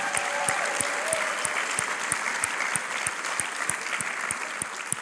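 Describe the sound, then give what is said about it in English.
An audience claps for the city's public service workers, steadily and densely, a continuous wash of applause with a faint regular beat running through it, holding at an even, moderately loud level without any talking. “Can we just give a massive round of applause to all our public service workers, everybody that's amazing on the front lines.”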